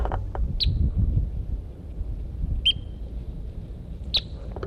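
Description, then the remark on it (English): A Red Crossbill, bird M4, sings three short, high whistled notes, spaced about a second and a half apart, over a steady low rumble of wind or outdoor background noise, on top of Price Mountain, January 25, 1984. “beginning of tape January 25th, 1984, up on top of Price Mountain with Birds M4, who's in song, and 06 is out here too.”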